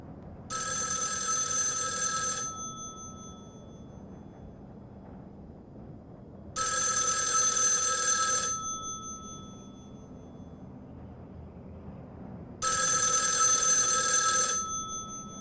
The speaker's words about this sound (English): And just, and the way the phone starts ringing again.